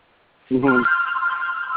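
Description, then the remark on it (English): A telephone rings in the background: a loud electronic ring starts abruptly, with a low buzzy tone that jumps to a steady high-pitched sustained trill lasting over a second. “Somebody's got a phone in the background.”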